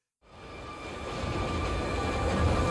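A subway train rumbles steadily in the subway tunnels after a brief silence, in a film scene with Vincent Schiavelli, its low roar and faint metallic whine building slightly louder over a few seconds, with no voices.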